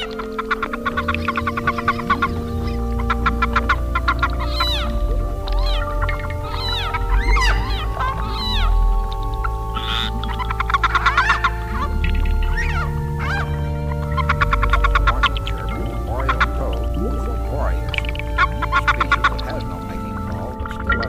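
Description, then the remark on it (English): A leopard frog gives repeated short, sharp open-mouthed warning chirps, the call it makes when seized by another male, fairly loud, over a dense, steady humming background with no one speaking. “This whole scream of the leopard frog, a species that has no mating call, but still utters a warning chirp if seized by another male.”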